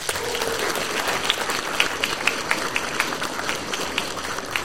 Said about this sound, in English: Big round of applause to our team, please, for managing that. Another big round of applause to all our candidates.